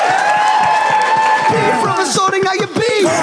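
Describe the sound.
Loud, sustained applause from an audience at a Cheer for Liverpool Christmas event, with cheering and high whoops rising over a dense wash of clapping and many shouting voices throughout.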